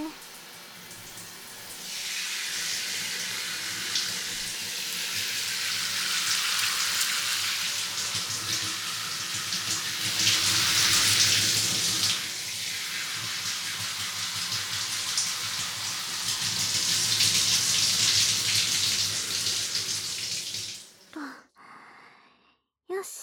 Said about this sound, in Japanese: じゃあ、シャワーでヘッドスパのオイル流しちゃうね。